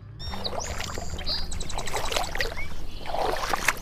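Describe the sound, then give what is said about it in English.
A stream on the coast of Vancouver Island flows and babbles steadily over rocks slick with bright green stringy algae, with a constant rushing, splashing texture, while high, thin songbird chirps and whistles ring out above the water noise. “We're in a stream on the coast of Vancouver Island, and the rocks here are slick with this bright green stringy algae.”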